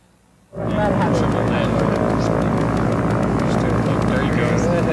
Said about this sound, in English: Again, fly by mouse. So this is not remotely piloted. Then here's a view from the aircraft dropping the load.